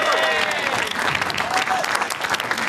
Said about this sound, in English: And a round of applause, maybe even, with my bad knees, a standing ovation